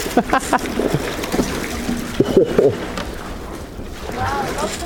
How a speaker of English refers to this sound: That's amazing. So we're just crashing through some already broken and slightly invisible ice, which is sort of crunching and scattering all over the place. And you can't really get a hold with your paddle.